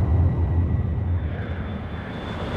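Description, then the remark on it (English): A steady, droning airplane engine rumbles continuously, deep and fairly loud, holding an even low roar for a few seconds with no voices over it. The plane carries passengers and lands at Hanscom Field. “They thanked the pilot and crew and stepped off the plane.”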